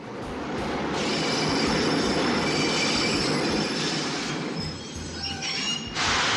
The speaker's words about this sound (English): Well, we have been waiting for the train this week. Here it comes.